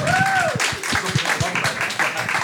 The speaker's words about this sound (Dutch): geef ze een groot applaus.